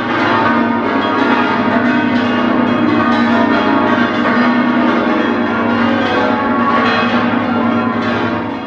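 Eleven church bells peal together in a dense, continuous wash of overlapping ringing tones, loud, with no pauses and no voices, part of a ringing that lasts 19 minutes in all.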